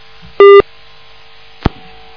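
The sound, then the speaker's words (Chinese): A telephone line tone sounds once as a listener's call to a call-in program connects: a short, loud electronic beep lasting a fraction of a second, followed after a pause by a brief click. No one speaks. “好，那么这个电话打通了，但可能，不知道为什么，那个台长只能挂了，再接下一个电话。”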